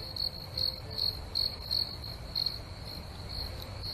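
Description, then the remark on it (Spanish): A cricket chirps in shrill, high-pitched bursts in pairs, very loudly, repeating steadily about twice a second, then growing fainter toward the end over a low background hum. “También tímidamente sonó un segundo cri, al que le siguieron otros, hasta que en la quinta o sexta intentona ya era cri-cri, cri-cri, o sea, en fortísimo y en grupos de dos en dos.”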